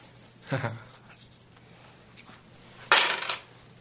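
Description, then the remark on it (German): Two separate clinks of coins set down on a hard surface as money is handed over, a short one early and a louder, brighter clatter near the end, with quiet between. “Hier ist dein Geld. Soll ich es dir hinlegen?”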